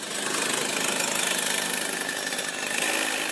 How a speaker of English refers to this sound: warms the kart engine up before another practice.